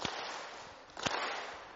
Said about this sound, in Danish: Det er, I alle sammen tager jeres hænder sådan her. Og så klapper I samtidig med mig. Er I klar? Ja. Er I klar? Ja. Er I klar? Ja. Klap.